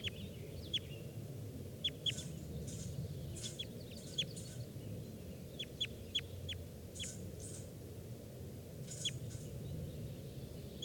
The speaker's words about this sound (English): Bird came down and he's perched right next to 421, who's calling there.